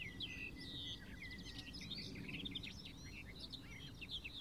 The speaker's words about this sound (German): melodiöse, plappernde, aber auch volle Gesang der Sperrbargrasmücke.